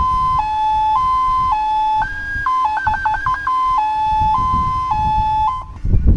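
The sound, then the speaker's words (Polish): An old 1985 Polonez fire engine starts up, its siren wailing in a steady two-tone pattern, a high pitch stepping up and down repeatedly, with a rumbling engine underneath that surges toward the end. “Drodzy Państwo, to odpalił stary strażacki samochód Polonez.”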